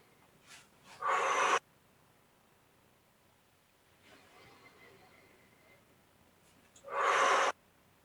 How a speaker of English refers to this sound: Thanks for joining me in that. A little good breathing.